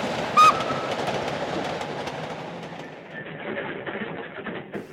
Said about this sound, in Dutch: De trein stopt.